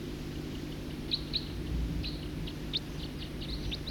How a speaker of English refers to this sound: Song of the first bird. High buzzes.